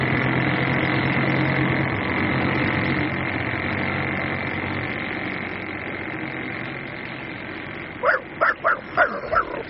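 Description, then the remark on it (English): A steady droning rumble fills the background, then near the end a dog named Brach barks five times in a quick, evenly spaced burst, fairly loud. “Oh, Brach, you can bark all you like now.”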